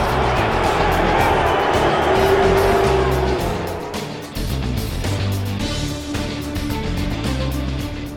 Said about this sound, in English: Good night from the Grand Lakes Arena. I know you're booing me, but he actually did rip my flesh open.